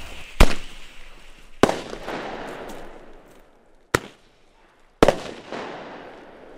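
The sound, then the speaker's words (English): A hand-held firework, pointed toward the sky and lit by its fuse, goes off in a series of sharp cracking bangs, four loud reports spaced unevenly over several seconds, each followed by a crackling, fizzing tail that fades out. “holds up the firework, pointing it toward the sky. He lights the fuse, and then”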